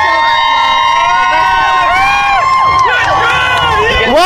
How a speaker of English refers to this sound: Why is there such a cheer all of a sudden? Who's going past at the moment? Somebody's very popular. I have no idea.